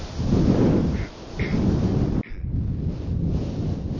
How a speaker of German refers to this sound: Menge tobt.